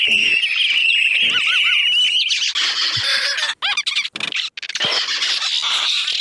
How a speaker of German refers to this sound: Also das ist jetzt nicht ein einzelner Vogel, sondern es sind viele verschiedene Vögel gewesen. Einfach erzeugt dieser Sound durch wildes Bewegen der Maus auf dieser Seite.